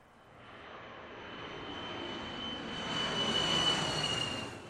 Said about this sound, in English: Fascinated by the plane flying overhead, Myeonggu looked up, suddenly losing his balance and falling into the water.